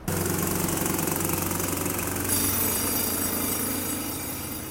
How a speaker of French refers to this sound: Marteau piqueur, c'est pas forcément gênant, ce sont des gens qui travaillent. Il y a juste à se taire parce que de toute façon c'est ponctuel.